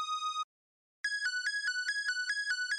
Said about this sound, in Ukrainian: Вона тобі допомогла зарядити телефон поліфонічними мелодіями, я так розумію, що в ті часи.